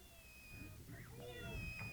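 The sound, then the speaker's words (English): A cat meows a couple of times in quick succession, short rising-and-falling cries heard fairly quietly over a low background hum. “This is my cat.”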